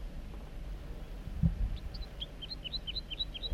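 A wild male bird, perched at the top of a big dead snag on a hilltop, sings a quick run of about a dozen short, high, chirping notes in steady rhythm, fairly soft over a low background rumble, after a brief dull thump.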